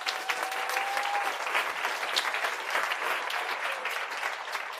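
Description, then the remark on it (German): Steady applause from an audience thanking the women who made the day's event possible, a dense patter of many hands clapping continuously at an even, fairly loud level for several seconds, with no voices standing out. “Also nochmal einen herzlichen Applaus an euch, dass ihr den Tag ermöglicht habt heute.”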